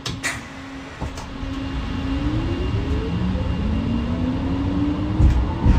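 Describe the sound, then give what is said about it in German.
A tram pulls away from a stop as the driver operates the setpoint controller, its electric drive giving off a rising, whining 'bub-bub' tone over a steady low rumble, with a few clunks at the start and end; fairly loud. “Ich bediene natürlich die Straßenbahn nur mit meiner linken Hand, und wenn ich den Sollwertgeber bediene, um quasi die Straßenbahn ins Fahren zu bekommen, dann kommt dieses Geräusch.”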